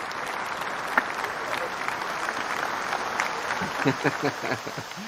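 Steady audience applause fills the whole stretch, a dense wash of clapping with a few sharper claps and some faint voices and cheers rising near the end.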